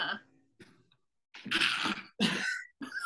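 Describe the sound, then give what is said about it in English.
Loud sneezing: a soft intake and sniffle, then three forceful, breathy bursts in quick succession with short pauses between, no talking over them. “Bless you.”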